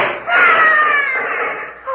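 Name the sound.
person screaming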